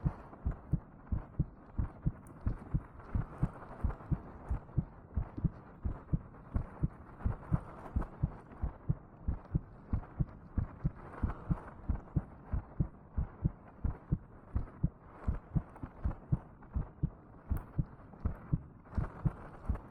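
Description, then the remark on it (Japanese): A fast, steady heartbeat from a woman's chest, speeding up, thumps loud for the whole stretch, each low double beat landing in a quick, even rhythm with no voices. “おじさんがかわいすぎて、おっきな赤ちゃん甘やかして母性全開になっちゃって、なんだかドキドキしてきちゃったよ。”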